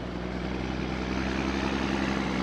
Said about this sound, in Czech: Slyšíte netradiční zvuk lesa, který se často ozývá v posledních dnech v přírodním parku Česká Kanada. Těžká lesní technika likviduje polom způsobený prudkými bouřkami.